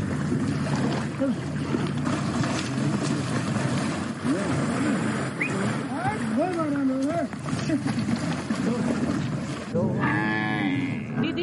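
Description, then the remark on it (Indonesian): Water buffaloes moo several times, long low calls rising and falling, with a louder, higher call near the end, over a steady wash of outdoor noise and murmuring, as they are brought to bathe in warm hot-spring pools in the Nemrut volcano area of Bitlis Province, eastern Turkey, in below-freezing winter weather. “Di Turki banyak kerbau sengaja didorong mandi air hangat demi kesehatan mereka.”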